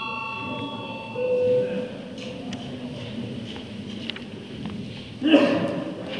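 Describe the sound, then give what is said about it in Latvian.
A steady electronic bell tone in the Latvian parliament (Saeima) rings with bright overtones for about a second before a vote, then fades. Murmuring voices and shuffling continue underneath, with a brief louder clatter near the end. “Lūdzu zvanu.”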